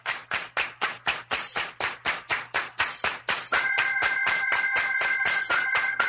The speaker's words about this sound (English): Clap your hands!